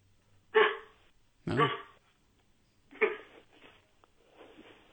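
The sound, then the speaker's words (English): A person imitates their Chihuahua's yappy barking: three sharp, loud barks spaced about a second apart, then a softer, drawn-out yap trailing off at the end. “Can you get your dog to bark?”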